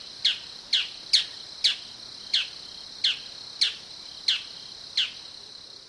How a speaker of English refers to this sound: The bull-headed shrike, Lanius bucephalus, which might well have been called blockhead shrike, is an East Asian bird. Here's a bull-headed shrike recorded in South Korea.